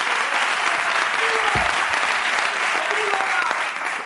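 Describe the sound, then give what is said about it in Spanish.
Sustained applause from a large studio audience for the show's band, a dense steady wash of clapping that fills the whole clip at high volume, tapering slightly near the end, with no speech over it. “Un aplauso para Ricardo y Grison, por favor, la banda del programa.”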